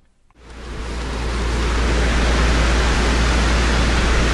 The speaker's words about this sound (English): And here along the Thames, he found a similar structure and clearly took delight in the contrast between the placid river above and then the river breaking into rapid moving waters, white foam, as it breaks through the weir.